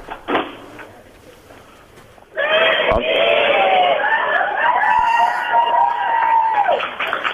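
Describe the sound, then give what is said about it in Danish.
A crowd of about 200 nurses at CVO erupts into loud shouting and cheering, calling out "striptease" as the speakers enter, after a quieter stretch of murmuring, with many overlapping voices and a few rising calls sustained to the end. “Vi er inde, som I måske kan høre. Hvad var det, de råbte? De råbte striptease!”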